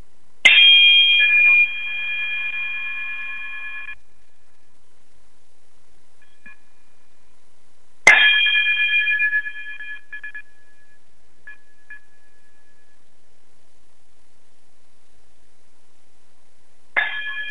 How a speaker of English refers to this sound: if you would, chime us out, brother.